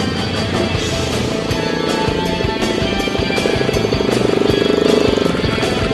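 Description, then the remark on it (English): Loud, continuous engine roar with a steady buzzing drone, swelling slightly as vehicles pass by, as team racing machines drive their first laps. No one speaks. “Babs's plan is to drive the first couple of laps without cutting the engine.”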